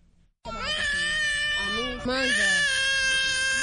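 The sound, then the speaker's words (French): An infant wails loudly, a continuous high, strained cry that breaks off for a split second midway and then resumes just as intensely: a hungry refugee baby in its mother's arms on the beach of Rumonge, Burundi, just landed by pirogue from the neighbouring Democratic Republic of Congo. “Sur la plage de Rumonge, à une centaine de kilomètres au sud de Bujumbura, ce bébé dans les bras de sa maman vient d'accoster d'une pirogue qui vient de la République démocratique voisine.”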